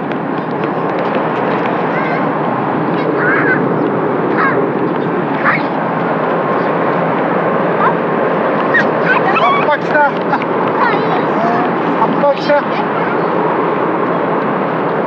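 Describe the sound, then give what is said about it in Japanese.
A large ferry's deep, steady roar, heard from afar while people fish for sardines, horse mackerel, mantis shrimp and goby, fills the whole scene without letup, with scattered brief bird calls cutting through it now and then. “遠くで巨大なフェリーの轟音がする中、イワシ、アジ、シャコ、ハゼが釣れているようです。”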